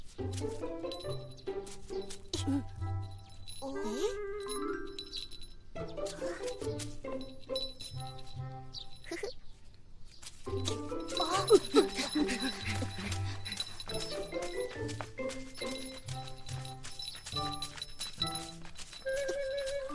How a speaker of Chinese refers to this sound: 奶奶，你听，有风铃的声音。